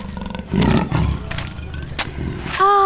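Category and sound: animal, loud lion roar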